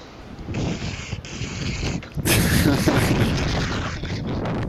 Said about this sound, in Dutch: Oh, je waait het heel hard man. Hey, ik wou het zeggen, het waait lekker. Het waait.